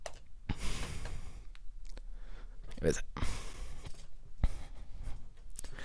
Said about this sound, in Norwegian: Jeg puster veldig tungt, jeg vet ikke hvorfor.